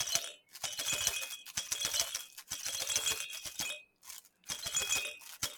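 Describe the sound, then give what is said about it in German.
A small toy rattle cube is shaken in several quick bursts, a bright clattering of loose beads with short pauses between shakes, fairly loud with no talking. “so ein Würfel hier, mit dem kann ich jetzt schon Filmmusik.”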